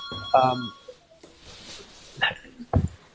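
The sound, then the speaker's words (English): A telephone rings in the background in a few short, tonal bursts, fairly faint, with some muffled voice-like sounds in between. “I have a phone ringing in the background, but please carry on.”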